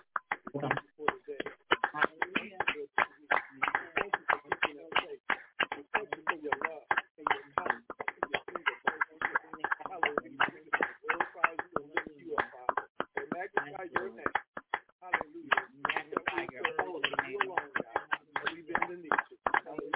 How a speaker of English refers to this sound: Let us give the Most High a hand clap of praise this afternoon. Hallelujah. Thank you.